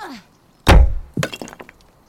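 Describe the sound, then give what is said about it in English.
A hard, heavy strike lands on the glass of a locked door, trying to break it, with a sharp crack, followed moments later by a second smaller impact and a brief clatter and rattle that quickly dies away. “Something to break the glass.”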